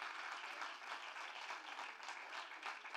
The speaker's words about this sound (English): I wish you'd clap a little bit louder and shout a little bit louder. Come on, somebody.